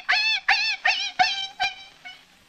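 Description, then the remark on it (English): A man imitates a dog yelping in pain, voicing Asta, the wire-haired fox terrier of the radio program The Adventures of the Thin Man, whose paw is stepped on: six sharp, high-pitched yips in quick succession, fairly loud, fading in strength as they go, with no talking. “Somebody steps on Asta's paw.”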